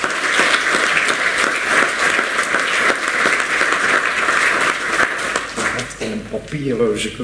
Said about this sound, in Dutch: En uitnodigen om naar voren te komen om, terwijl ik jou een pen overhandig, ook het applaus van de raad in ontvangst neem.